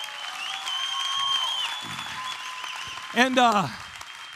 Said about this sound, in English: And you guys all know, listen, that you kind of applauded, but you thank God for people like this, because without people like this in my life initially as a Christian, and you guys can relate to this too, there's no chance I'd be where I am.